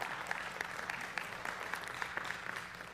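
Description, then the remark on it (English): A church audience claps their hands to give the Lord a hand during a sermon, a dense, steady patter of many overlapping claps with sharper individual slaps popping out, sustained throughout at moderate volume with no talking. “Hebrews, you can clap if you want. Give the Lord a hand.”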